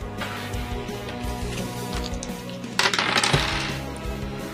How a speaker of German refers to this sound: Dann würfel einmal Schadenspunkte. 4d10, bitte.